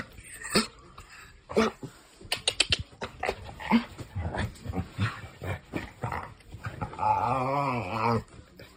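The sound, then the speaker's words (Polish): A mongrel dog growls while baring its teeth, a low rumbling snarl that rises and wavers toward the end, preceded by scattered clicks and shuffling sounds. “Teraz właśnie do mnie zęby szczerzy.”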